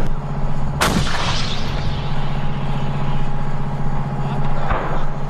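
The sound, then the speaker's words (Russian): A 105 mm gun fires a single booming shot at targets during firing training, rolling into a long, fading echo over a steady low engine hum, with a second, softer report near the end. “Навчання були у нас з тривайської зброї і 105-мм гармати. Ми стріляли, уражували цілі і отрабатували навички на пулеметах.”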